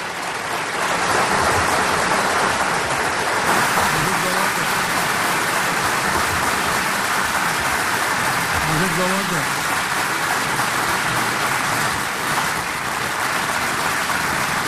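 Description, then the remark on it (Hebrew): Sustained applause from a large crowd fills the room, a dense, steady wash of clapping with faint voices murmuring underneath, applauding President Trump's statement that Jerusalem will remain Israel's united capital. “גם הרבה כפיים מהקהל.”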